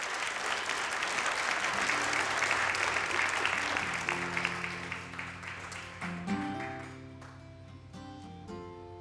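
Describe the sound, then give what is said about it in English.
A crowd applauds loudly with dense, steady clapping that gradually thins out over several seconds as music with sustained tones fades in underneath and takes over. “Once again, folks, let's hear it for”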